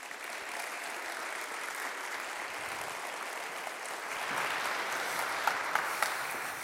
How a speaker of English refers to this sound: Just so you know, they always clap when I'm not preaching. And I hate it. No, I'm just kidding. That's funny, because they always clap when I do preach, so that's good.